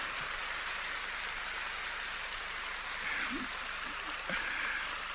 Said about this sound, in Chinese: 很开心啊，我听到你们的掌声很开心